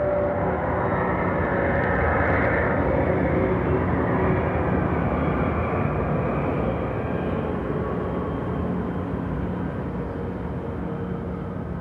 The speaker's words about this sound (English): And immediately after that, a plane, and then soon probably just the roar of wind.